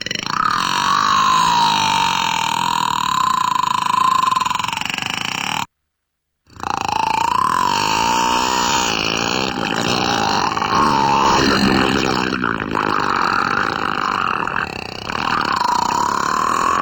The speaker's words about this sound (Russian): Ладно, давай послушаем звук кита. Давай.